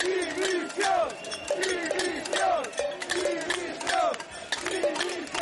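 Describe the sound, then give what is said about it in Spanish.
A crowd of about 1,000 bar and restaurant owners, protesting the closure of bars and restaurants in front of the Generalitat de Catalunya in Barcelona and carrying pots, shouts and chants continuously, many voices overlapping in rising, wavering cries, with sharp clattering bangs scattered throughout, loud and dense from start to finish. “Y en Cataluña, unos 1.000 hosteleros se concentraron ayer por la mañana frente a la Generalidad de Cataluña para protestar por el cierre de bares y restaurantes.”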